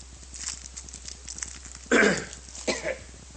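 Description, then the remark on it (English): Two sharp coughs from a speaker giving a sermon, the first louder and harsher, the second following less than a second later; no one speaks. “Excuse me. I'm going to have to put in a cough drop.”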